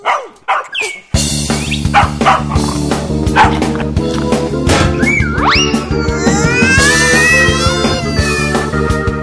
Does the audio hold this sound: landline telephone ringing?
no